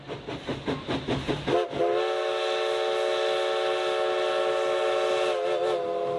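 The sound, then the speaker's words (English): A historic steam locomotive of the Oregon Coast Scenic Railroad, running along the Oregon coast, chuffs in a quick, steady rhythm for a couple of seconds, then lets out a long, loud, sustained whistle that carries on to the end. No one speaks. “The Oregon Coast Scenic Railroad is your opportunity to ride behind the living history of a historic locomotive engine along the beautiful Oregon coast.”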